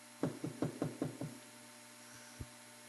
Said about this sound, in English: And he comes to the very church that was praying for him. And he knocks on the door.